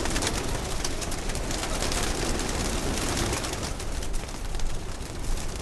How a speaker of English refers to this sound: This guy's got a nice car, but I got the Mercedes Benz of pigeons.